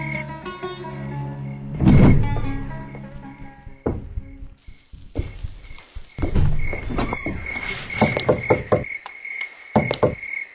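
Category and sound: household object, knocking on a door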